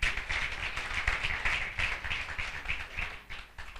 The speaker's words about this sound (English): If you are happy to be here, give God a clap offering.